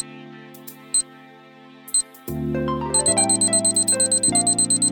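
A clock timer sound effect kicks in: two sharp clicks, then a steady, rapid ticking starts over a droning synth music bed that swells midway, fairly loud, with no voices.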